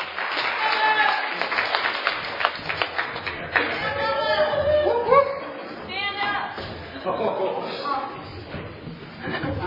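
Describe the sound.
A crowd applauds with dense, steady clapping, joined by scattered cheers and murmuring voices as the applause continues for several seconds before thinning out.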